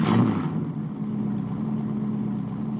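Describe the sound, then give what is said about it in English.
The engine of a convertible Trans car called Miss Becky idles steadily, a low, even rumble with a faint tonal hum, slightly louder at the very start before settling into a constant drone. No one speaks. “1 hour later, Stinker sat idling in his beloved Miss Becky, the convertible trans he was still paying off in convenient monthly installments.”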